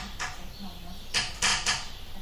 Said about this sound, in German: Quietsch, quietsch, quietsch. Knack, knack, knack. Der Deckel hier knackt.